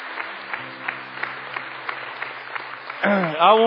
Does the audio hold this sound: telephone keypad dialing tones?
no